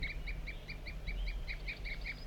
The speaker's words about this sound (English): Tooping by the wild bird again.